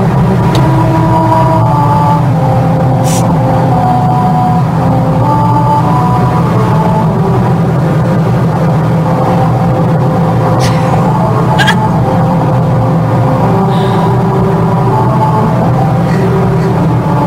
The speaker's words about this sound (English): where a highway actually plays America the Beautiful when you drive over the rumble strip. Here's what it sounds like.